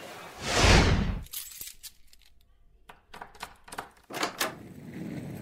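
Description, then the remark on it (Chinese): After a brief rushing whoosh, glasses clink together in a toast to a prosperous business, a string of bright, light chimes scattered over a few seconds, with no voices. “来来来，振作一点，祝你啊，不不不，应该说是祝我们生意兴隆，干杯！”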